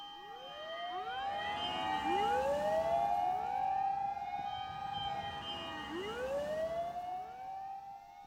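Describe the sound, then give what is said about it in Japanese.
A fire engine siren wails continuously, its rising and falling sweeps overlapping as if several sirens or echoes sound together, fairly loud and steady throughout with no talking. “ああ、いえ、消防車ですね。”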